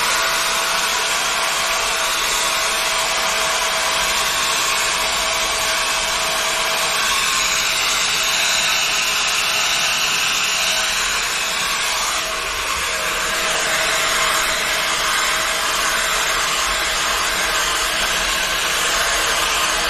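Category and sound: household object, hair dryer blowing hair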